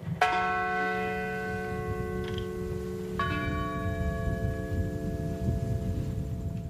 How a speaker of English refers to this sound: while one crashed in rural Pennsylvania, where a bell tolled and the names were read of those who died to prevent another terrorist incident from taking place.